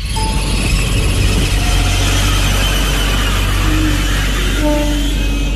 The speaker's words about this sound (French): sont montés de bon matin dans le train qui relie Molsheim à Strasbourg.